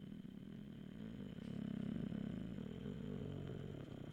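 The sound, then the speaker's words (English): A person imitates a car engine with their voice, a low buzzing drone that swells louder in the middle like a rev, then settles back down over about four seconds. “That's my car noise.”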